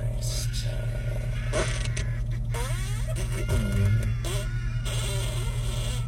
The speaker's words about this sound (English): A little out of season, but this is Halloween Fart Sound 5.